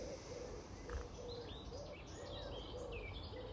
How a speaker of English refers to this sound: I'm over near the polytunnel now, so you can hear all the birds.